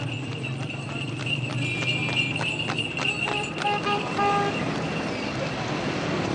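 Horse cart hooves clip-clop steadily along a busy street in Herat, Afghanistan, while car horns toot several times, over a constant hum of traffic.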